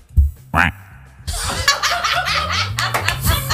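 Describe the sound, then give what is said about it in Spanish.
A person does a short, nasal duck quack with their voice as a turn in a duck-imitation contest, and a burst of lively laughter from several people follows and carries on to the end. “Venga, pues voy con mi pato.”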